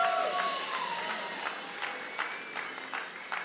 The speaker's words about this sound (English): And all God's people shouted. Give God a shout in the house. Come on, church.